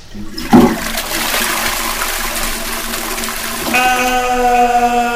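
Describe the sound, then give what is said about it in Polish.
A toilet flushes: a click of the handle, then a loud, steady rush of water that gives way to a high, whining hiss as the tank refills. “Wrzeszczał przyboczny Zbrojka, który wyskoczywszy z przybytku, podciągał spodnie w biegu.”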